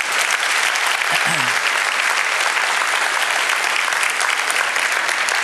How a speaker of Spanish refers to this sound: Si Dios le bendice, un aplauso al Señor que se lo merece. Amén.